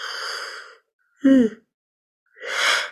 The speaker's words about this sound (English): And my yawn is not so much about fatigue, it's about energy movement.